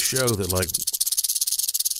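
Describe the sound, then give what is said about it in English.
Two rattlesnake rattles in a box buzz in a rapid, dry, steady vibration, fairly loud. A man's voice talks briefly at the start, then the rattling continues alone. “This box has two rattlesnake rattles in it.”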